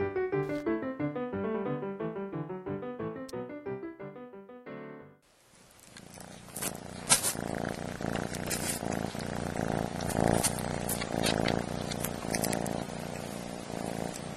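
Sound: kitten purring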